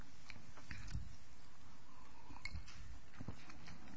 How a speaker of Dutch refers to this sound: Nou komt er nog een vraag. Ik neem eerst even een slokje.